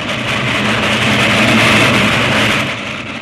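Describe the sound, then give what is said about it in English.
A train rushes past with a loud, steady rumbling roar full of hissing noise, swelling slightly in the middle and easing off toward the end. “There's a train coming.”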